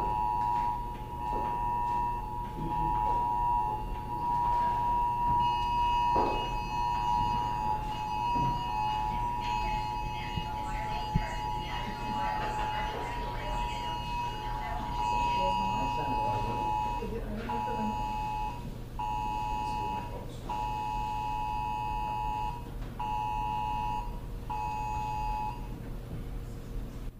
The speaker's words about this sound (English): And on the phone, this is a test of the National Wireless Emergency Alert System. No action is needed, except you do need to take action. You have to hit OK on your phone, otherwise that message won't go away.